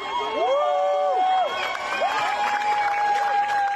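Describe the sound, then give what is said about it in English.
A crowd of spectators cheers and whoops loudly outdoors as Paris mayor Anne Hidalgo, wearing a swimsuit, takes a plunge into the river; sustained shouts and high excited voices rise over a dense wash of noise, with no clear speech standing out. “Now, the mayor of Paris, Anne Hidalgo, has taken decisive action, donning a swimsuit and taking the plunge, quite literally, in front of cheering spectators.”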